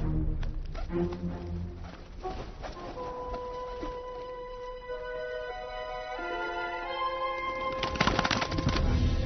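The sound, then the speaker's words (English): A bird calls with clear, sustained whistling tones that shift in pitch, heard over a dense, busy background that grows louder toward the end. “You heard the bird.”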